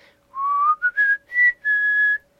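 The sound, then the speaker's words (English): A person whistles a short, clear melody of several sustained notes that slide and shift in pitch, with brief pauses between phrases, fairly loud with no talking. “How about whistle?”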